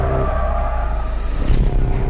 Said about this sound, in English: The bus crashed. Mom, what bus crashed?